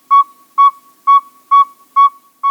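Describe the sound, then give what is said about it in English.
A male northern saw-whet owl gives its advertising call: a steady series of clear, whistled toots, about two per second, loud with no other sounds. “Listen carefully to the pacing of their hoots. Here's the first.”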